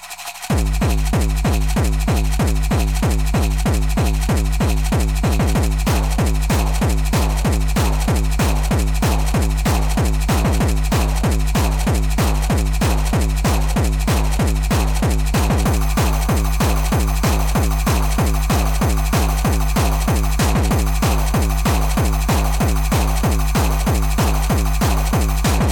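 A small can shaken steadily for the whole stretch, a loud, continuous rattling clatter with a fast, even rhythm and a throbbing, buzzy undertone. No one speaks.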